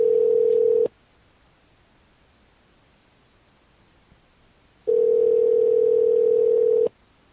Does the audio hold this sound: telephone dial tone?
yes